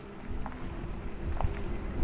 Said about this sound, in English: we put that sound in so that pedestrians and others can hear that the vehicle is approaching